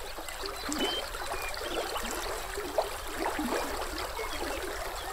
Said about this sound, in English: Through these grasslands flows the Frenchman River, twisting and looping again and again, sinuously, mile after mile, the epitome of a meandering river. The river's flow creates its own music.